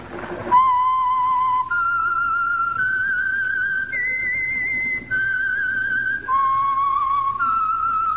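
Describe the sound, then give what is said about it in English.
A whistled signature melody identifying the Signal Oil radio program The Whistler, about seven long, sustained notes, clear, rising then dipping in pitch with a slight waver, performed alone without talk. “And for Sunday evening listening pleasure, the signal to listen for is this whistle that identifies the Signal Oil program, The Whistler.”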